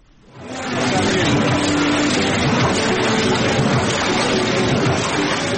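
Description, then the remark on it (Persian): Printing press machines for books and other printed material running at a printing house in Kabul, Afghanistan, a loud, steady mechanical roar and clatter that swells in within the first half second and then holds evenly, with no break or rhythm change. “ماشین‌های گردزده چاپ کتاب‌های گوناگون و سایر مواد چاپی شاید از ترس آسیب دیدن برای مدت کوتاه در ماه یک بار روشن شوند، اما چند ماه پیشتر این ماشین‌ها برای استراحت و متوقف شدن زمان محدودی داشتند.”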